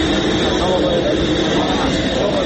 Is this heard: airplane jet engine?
yes